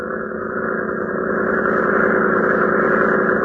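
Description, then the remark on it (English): A powerful boat motor on a Red Cross cutter throbs steadily as the cutter edges into a floodgate during a flood. Its deep pulsing drone is loud and continuous, with no voices present. “Powerful motor throbbing. Red Cross cutter edges into the floodgate as the convicts switch to positions behind the crew members of Lois Lane.”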